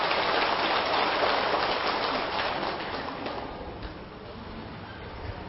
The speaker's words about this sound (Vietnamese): Nếu quý vị hài lòng với hai điều nữa trên thì hãy cho một tràng pháo tay thật lớn để cam kết làm.